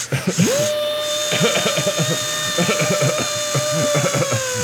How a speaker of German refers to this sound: Oh, der ist groß. Das ist ein Titanium 3, Alter. Du hast mir gesagt, das wäre ein easy. Boah, hast du. Wie willst du den knacken? Ich hab den Bohrer. Ich huste, während du bohrst, dann ist nicht so aufregend.